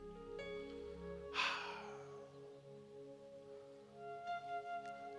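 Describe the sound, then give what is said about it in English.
A whole room of people takes a big collective inhale and exhale together, a broad airy rush building and fading, over a sustained organ-like musical drone. No one speaks. “Whole room. Everybody just do a big inhale, exhale.”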